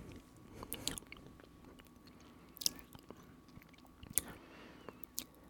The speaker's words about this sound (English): It's pretty good. I like to let it melt a little first in my mouth before chewing it.